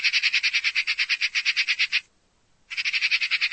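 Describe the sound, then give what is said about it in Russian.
A magpie's harsh, rattling chatter: a fast string of dry, scratchy notes lasting about two seconds, a short pause, then another burst. It is loud, with no talking. “Или с сорокой?”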